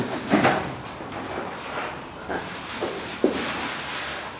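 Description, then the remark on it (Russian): A door is pushed shut, with a few soft bumps and a sharper thud near the end, over a steady background hiss and no talking. “Ну, все, сидели, стояли с открытой дверью. Теперь закрыто посидите.”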